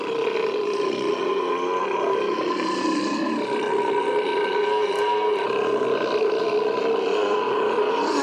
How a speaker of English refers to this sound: I told you I had the burp.